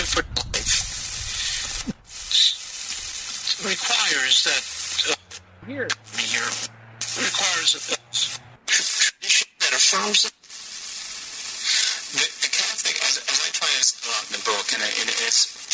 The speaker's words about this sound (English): But the cool part of it, though, was it played the signal of the station through the hot dog. Here, listen.